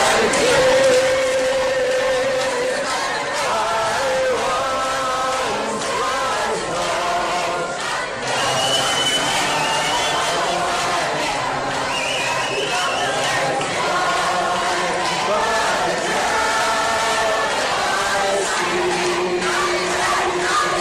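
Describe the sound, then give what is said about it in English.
A large crowd of pro-life demonstrators sings the hymn Amazing Grace in slow, sustained, overlapping voices while protesters shout and scream a repeated chant of "God is dead" over it, loud and continuous for the whole stretch. “Perhaps you could hear them screaming, God is dead in the background there as the pro-lifers were singing Amazing Grace.”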